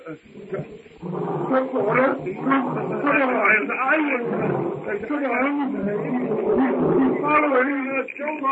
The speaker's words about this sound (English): Numa's roar carries to Tarzan as he sits on a low-hanging branch watching the hut. It's the roar of the king beast as he crouches, tawny belly hugging the ground before the steely muscles propel him in terrific force upon his helpless prey.